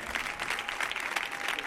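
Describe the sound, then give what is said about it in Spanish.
Steady, strong applause from an audience for two performers, a dense wash of many hands clapping at once with no pauses, filling the whole stretch evenly and without voices. “Fuerte el aplauso para ellos dos”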